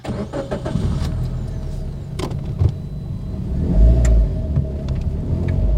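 Steady low engine rumble inside a car cabin, with occasional clicks and brief mechanical whirs over the constant drone; no one speaks.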